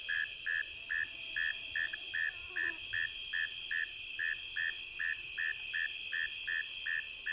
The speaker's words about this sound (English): my favorite singer in this chorus is the cricket that is making the relatively low-pitched buzzy chirps. Jeet, jeet, jeet, jeet, jeet. A northern mole cricket, the male singing from the entrance to its burrow along the muddy shoreline of the stream.